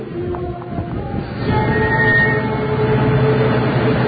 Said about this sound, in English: And a car going by.